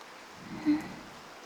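Soft, steady rain falls outdoors in a garden during the rainy season, having started suddenly; a faint continuous hiss of drops with one brief swell partway through and no voices.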